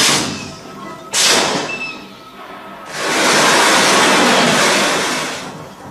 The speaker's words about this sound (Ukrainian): Що це було? Що ми зараз чуємо? Це урагани накривають кассетами то місце, де ми працювали.